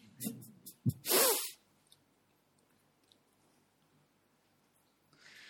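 A few quick, sharp inhales build up to one loud, explosive sneeze close to the mic, followed by near silence and a faint hiss at the end.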